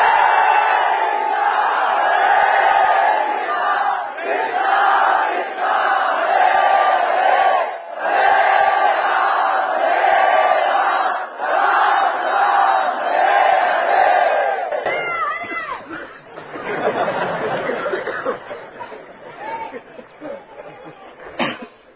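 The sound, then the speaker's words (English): A large crowd of about 2,000 people on a yatra loudly chants the holy name in unison. It forms a dense, sustained wall of many voices with rhythmic surges and brief dips, shifting to a rougher, more scattered roar of voices near the end. “But really, what is the use of your being 2,000 if you can't fill the entire universe with the loud chanting of the holy name?”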